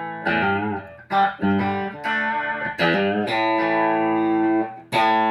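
A distorted electric guitar plays a short melodic lick, a string of bright, sustained notes with sharp attacks and a long ringing note before a final accent. It is loud and steady, with no talking.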